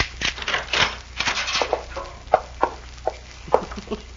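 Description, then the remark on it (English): A key left in the lock on the other side of a room door is pushed out of the keyhole and the door is unlocked: a series of sharp metallic clicks and scraping rattles, irregular, with no voices. “Well, these keys are made so you can push them right out.”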